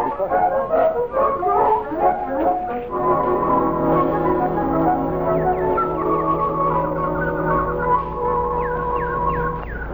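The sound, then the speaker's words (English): A bird sings at a little mountain cabin in Upper New York on a summer morning, in a steady, fairly loud warble, with long sustained tones giving way to a run of quick rising chirps toward the end. No one speaks. “Milton, listen to that bird. Oh, it's beautiful.”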